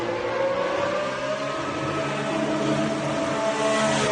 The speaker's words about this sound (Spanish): Bueno, primero te pongo el sonido y ahora te explico algún detalle técnico. Así sonaba en su primera vuelta el Aston Martin Honda. Vamos a catarlo.